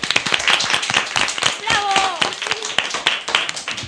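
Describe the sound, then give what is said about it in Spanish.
Steady audience applause with dense, rapid clapping throughout, and a brief high cheer or whistle rising over it midway. “Así que yo creo que ya no nos queda nada más que daros un fuerte abrazo por mi parte y bueno, y unos aplausos, que lo hemos hecho genial y que venga.”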